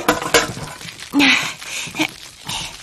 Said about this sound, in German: Die Quittenviertel wandern jetzt erstmal in einen schönen großen Kochtopf. Ich bin schon unterwegs und kippe die Ladung Quitten hinein.